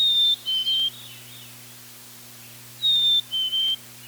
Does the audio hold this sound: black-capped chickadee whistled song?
yes